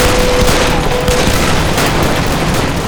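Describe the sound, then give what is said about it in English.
A rifle volley fired by the recalled 1st Ohio in front of a cedar forest: a loud, dense crackle of overlapping gunshots that continues for about three seconds, with several sharper bursts standing out from the steady roar. No one speaks. “The recalled 1st Ohio had come about again to face their adversaries in front of a cedar forest, and once they recognized Jacob's plight, fired a volley to dissuade his pursuers.”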